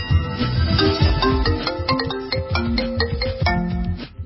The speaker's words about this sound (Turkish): 1973 yılında icat edilen bu nesne cep telefonu. Mucidi Martin Cooper.